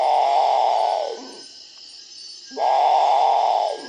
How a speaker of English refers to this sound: One of the birds that they were seeking and finally found was called the Great Potu.